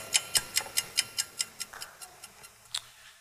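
A clock ticks in a quick, steady rhythm, about five crisp ticks per second, gradually fading quieter, followed by a pause and one last isolated tick. No voices.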